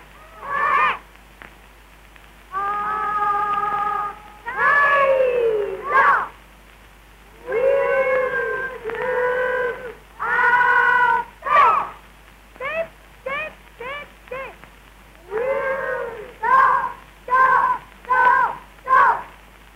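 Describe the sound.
A boy, a wolf cub scout, imitates a wolf howl with his voice: long wavering, rising-and-falling howls followed by a rapid run of short yelping calls, loud with no other talk.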